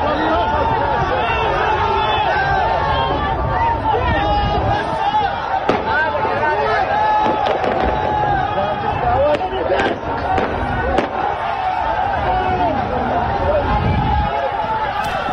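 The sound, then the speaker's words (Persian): Sharp gunshots crack out irregularly, several isolated and a few close together, over the constant roar of a large crowd shouting and clamoring, as security forces fire on worshippers and protesters at the Makki Mosque in Zahedan, Iran. “بنابر گزارش کولبر نیوز، این تیراندازی‌ها به سوی نمازگزاران و معترضان در مسجد مکی زاهدان صورت گرفته است.”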